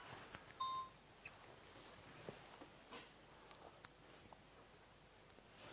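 A mobile phone gives a brief pair of electronic beeps near the start, fairly quiet, followed by faint room noise and soft rustling with no one speaking.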